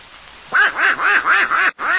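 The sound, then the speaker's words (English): The cartoon character Donald Duck quacks in a quick, steady series of about six loud, nasal squawks, each rising and falling in pitch, starting after a brief quiet moment. “What's that noise, Mickey? Oh, that's Donald Duck.”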